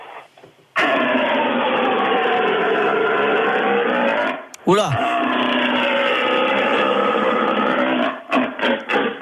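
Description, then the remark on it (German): A person imitates a red deer stag's bellowing call (the brame du cerf), done by last year's French champion of stag-call imitation: a long, loud, droning roar full of harmonics, broken midway by a brief swooping pitch slide, then resumed before trailing off in short grunts. “Ah, ein Hirschschrei, also der Bram du Cerf.”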